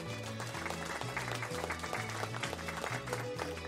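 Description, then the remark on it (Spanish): Steady applause from an audience for Japanese football captain and 2011 world champion Hamari Sawa, a dense crackle of clapping running throughout, layered over a loud backing track with a repeating low bass pattern. “Aplausos para ella.”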